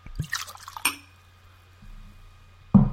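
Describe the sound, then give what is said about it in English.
Malt whisky pours into a glass with a bright splashing trickle and a glassy clink near the start, then quieter dribbles, ending in a sudden low thump. “To pour? Yes, I would like you to pour.”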